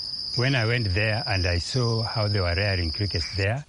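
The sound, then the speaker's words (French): A steady, high-pitched chirring of crickets raised by a farmer runs unbroken through the whole stretch, sitting beneath a voice that talks in the foreground. “Il élève ces insectes réputés pour leur grasouillis.”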